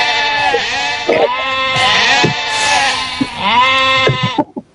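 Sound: sheep bleating sound effect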